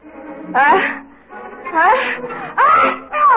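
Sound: sneeze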